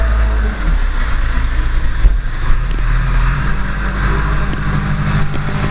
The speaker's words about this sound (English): I'm not exactly sure how some of those trucks are working. It sounds like they're rolling over the branches.